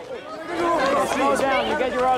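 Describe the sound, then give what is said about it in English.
An excited crowd converging on Marilyn Monroe clamors all at once, many overlapping voices shouting and chattering in a loud, steady babble with rising, high-pitched exclamations and no single voice standing out. “A crowd converges on her.”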